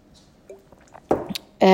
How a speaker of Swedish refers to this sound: Vi förväntar oss också, och det här är en biggie, jag ska bara ta en klunk vatten.